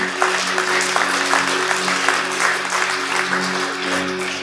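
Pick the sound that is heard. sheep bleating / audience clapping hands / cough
audience clapping hands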